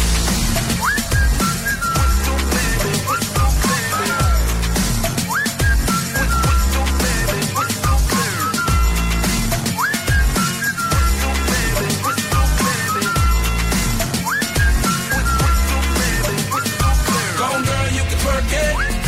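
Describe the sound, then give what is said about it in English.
A whistled melody repeats in short, bright phrases with upward slides, riding over a loud, steady dance beat with heavy bass throughout. “Can you blow my whistle, baby? Whistle, baby.”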